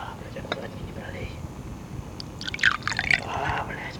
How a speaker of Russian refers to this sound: Наливай.